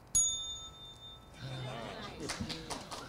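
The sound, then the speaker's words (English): A single bright strike of a desk bell, marking that time is up for a section of the Airtime radio broadcast, rings out clearly, its metallic tone lingering for about a second before fading into a murmur of crowd noise and voices. “When the time is up for a particular section, we'll hear this sound, a desk bell.”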